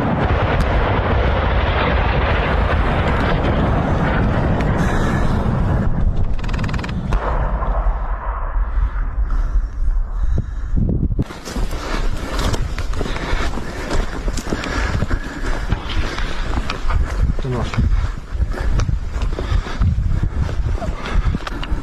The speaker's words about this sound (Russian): Ну, то есть там достаточно такой плотный вот огонь мы сейчас слышим.